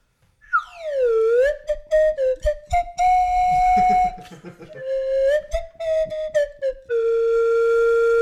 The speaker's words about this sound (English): You really got to put some slide whistle into that song. Oh, just overdub it. One slide whistle to take us out.